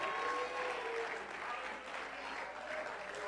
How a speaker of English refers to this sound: Woo! Come on, do it one more time. Just clap your hands and telling you got it.